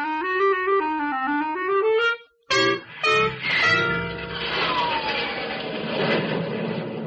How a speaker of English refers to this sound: A few scattered clouds lift their white skirts and step aside as your thunder jet lances upwards into clear, crystalline space.